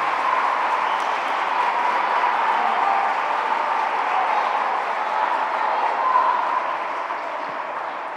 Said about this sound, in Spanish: Así que yo creo que os merecéis un fuerte aplauso por haberlo ganado.